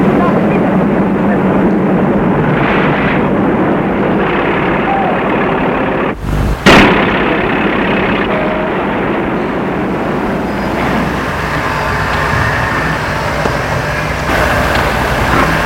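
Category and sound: vehicle, truck driving away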